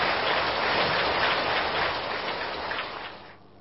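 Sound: long round of applause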